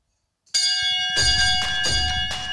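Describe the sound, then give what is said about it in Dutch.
A bell in a bar in Vinkeveen is rung loudly to mark a start, clanging several times in quick succession while its bright metallic tone rings on continuously between strikes. No voices are heard. “En als je de podcast wil starten met het luiden van de bel, dan gaan we beginnen.”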